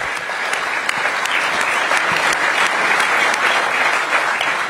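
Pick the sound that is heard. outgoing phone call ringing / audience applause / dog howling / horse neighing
audience applause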